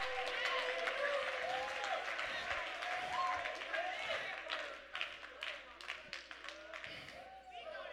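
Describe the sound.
An audience breaks into sustained, dense applause, with scattered sharp claps standing out as it thins toward the end, and voices calling out over it.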